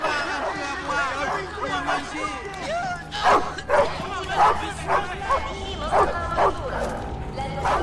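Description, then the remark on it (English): A dog among cages and armed guards barks repeatedly in a quick, irregular series of loud yelps, some sharp and some whiny, over a steady background of murmuring voices and low ambient noise. “Sid marches them towards the single-decker bus, past cages, armed guards and dog.”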